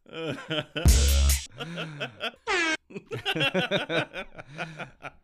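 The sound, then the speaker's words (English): A loud, brassy air horn blast cuts in for about half a second, followed by people chuckling and talking, with another short burst of noise a moment later. “I caught like the very end of the horn.”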